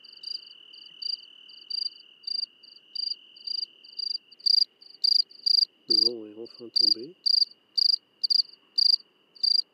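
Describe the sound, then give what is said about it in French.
Several crickets, a species common in Mediterranean lowlands near houses in autumn, chirp in a jerky, repeating rhythm of short pulses over a steady high insect trill, with a motorway running to Nice in the background and a man briefly speaking partway through. “Et donc ce grillon est très présent dans les plaines méditerranéennes, près des maisons souvent, et il agrémente donc l'automne de son chant avec les grillons d'Italie.”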